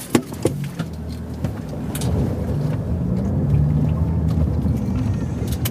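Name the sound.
car driving off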